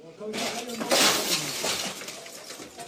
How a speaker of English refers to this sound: Dust fills the air in this shattered home in Gaza City. Two young men are picking up the debris inside by hand.